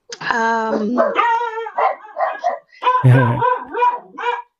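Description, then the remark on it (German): Several dogs bark and yip excitedly at someone at the door in a rapid, overlapping, loud burst, with a couple of deeper barks mixed in among higher-pitched ones. “Entschuldigung, das waren gerade meine Hunde. Hier steht jemand an der Tür.”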